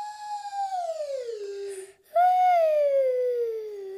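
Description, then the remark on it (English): A slide whistle glides downward in pitch twice, a long falling tone followed by a short break and a second, louder descending slide, with no talking. It is played to demonstrate a sliding sound for a singing warm-up game called Singing Slide. “This game is called Singing Slide, and all you need to do is make a slidey sound with your slidey voice, like I'm going to make with my slidey whistle.”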